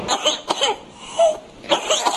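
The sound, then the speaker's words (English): A whooping cough (pertussis) coughing spell: harsh, rapid coughs, followed by a strained, high-pitched whooping gasp for breath, then another burst of coughing, all fairly loud. “The disease is known for the dramatic whooping noise its victims make as they try to catch their breath after coughing spells.”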